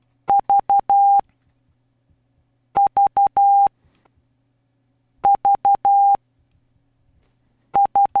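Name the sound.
morse code beeps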